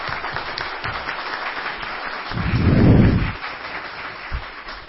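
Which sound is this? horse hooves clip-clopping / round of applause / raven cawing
round of applause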